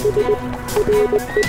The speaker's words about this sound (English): Hold that horse.